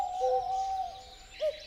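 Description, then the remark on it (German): An owl hoots with a long, steady hollow note, followed by a shorter hoot a moment later, fairly soft against a faint airy background with no voices. “Also, welche Vögel habt ihr gehört? Die Eule.”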